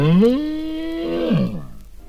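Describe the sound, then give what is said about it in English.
A single drawn-out cow moo from Mrs. Cow, a cow character in a children's picture-book story, sung in answer to being asked if she can sing: rising quickly in pitch, holding a steady droning tone, then sliding down and trailing off. Loud and alone, with no talking. “Mrs. Cow, can you sing? Of course I can sing. Listen.”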